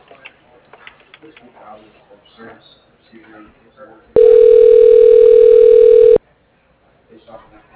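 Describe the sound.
A single loud, steady electronic telephone ring tone sounds for about two seconds during a call transfer, a buzzy pitched drone, with low murmured voices before and after it.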